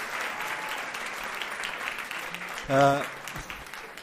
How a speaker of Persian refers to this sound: امروز محکم میتونی تشویق کنین. مرسی. اونایی که نشستن لطفاً خودشونو محکمتر تشویق کنن. مرسی.